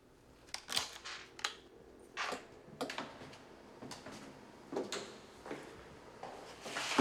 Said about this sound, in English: He opens a door to a hallway.